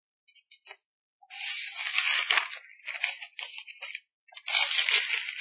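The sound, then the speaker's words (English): Thin paper pages being turned while someone looks for a passage to read: a few short flicks followed by longer crisp, crinkly rustling swishes with brief pauses between, and no voices. “Hard to turn the pages of thin paper.”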